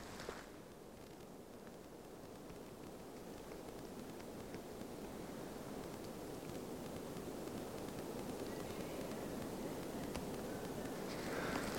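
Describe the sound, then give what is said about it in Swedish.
A soft, steady rush of wind moving through treetops on a January morning at Trestiklan in western Dalsland, a broad airy hiss that swells slightly over the stretch, with no voices and only faint ticks beneath it. “Ja, man hör ju, vinden drar ju genom trädkronorna lite grann och man hörde kanske också våra besökare här som var på väg ner mot parkeringen.”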